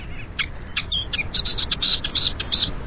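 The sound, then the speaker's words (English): A Millerbird, a Hawaiian songbird, sings a rapid run of high, bright chirps and trills, clear over a low background hiss, with no talking. “Yet, a new and hopeful chapter is being written with songbirds called Miller Birds.”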